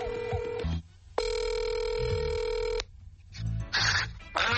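A phone line rings on an outgoing call to a correspondent in Belgium during a broadcast: a steady electronic ring tone sounds for a couple of seconds between shorter tonal bursts, clear, with no one speaking.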